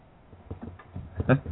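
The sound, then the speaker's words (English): A person imitates a dog barking over a phone line, a run of short, gruff, voiced yelps that grow louder toward a strong final bark. “That's like our dog.”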